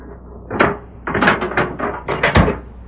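A heavy jail cell door being unlocked and pulled open by a sheriff in the evening: a sharp metallic clunk, a run of rattling scrapes, then a final solid thud, fairly loud with no voices.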